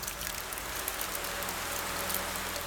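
Steady rain pours down during a rainstorm over Oakville in a dense, even hiss of countless drops, with no voices and no letup across the short stretch.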